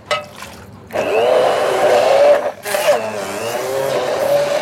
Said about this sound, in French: Donc prenez un bar mixeur pour qu'on mixe la purée. Donc là nous allons mixer les topinambours. Avec l'aide du bar mix, on plonge dans la casserole. On rajoute un peu le lait.